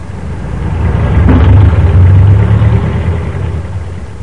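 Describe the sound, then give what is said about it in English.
Road traffic rumbles past a roadside store without stopping, a low engine drone that swells to a peak midway and then gradually fades as the vehicle passes. No one speaks. “leaning against the door jamb watching traffic flow past”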